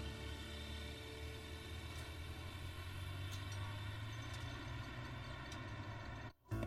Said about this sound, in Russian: Машина въезжает в ворота.